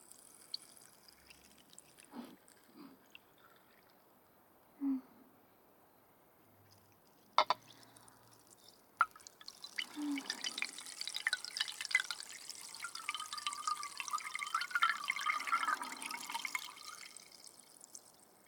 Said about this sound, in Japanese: グラスに入った炭酸水を元のガラスの瓶に戻すと、いい音でしょ？これお気に入りなんだ。炭酸の音、いっぱい聞かせてあげるね。